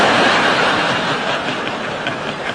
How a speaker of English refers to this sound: Should we just wait till this train's gone past?